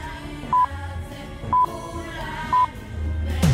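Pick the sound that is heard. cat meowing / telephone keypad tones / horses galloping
telephone keypad tones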